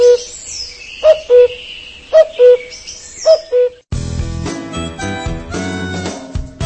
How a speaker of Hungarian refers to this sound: Madarak a folytatásban is, mégpedig a már emlegetett kuvikok